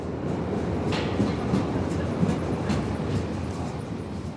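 A steady, loud rumble of a U-Bahn train pulling into the station, with faint rhythmic clacks and brief high hissy bursts over a dense low roar.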